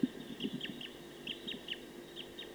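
A wild bird in a tree about 50 meters from a bird-netting site calls rapidly, a quick run of short, high-pitched notes repeating at a steady pace, fairly faint over a low background hum, with no one talking.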